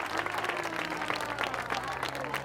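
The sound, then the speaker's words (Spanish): Steady, dense audience applause for the representative of the Instituto de Taraguilla, many hands clapping at once, loud and continuous throughout, with a faint low hum underneath. “Y ahora los más adolescentes que tienen las manos más grandes, vamos a darle un fuerte aplauso al representante, en este caso, del Instituto de Taraguilla,”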